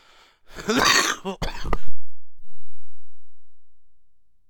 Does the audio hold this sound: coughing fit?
yes